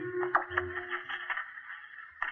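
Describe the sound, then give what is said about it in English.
Static from a radio set with no station on: a steady, thin crackling hiss with a faint low hum and occasional louder pops, heard on its own with no voices. “Can hear static, but none of the stations are on now.”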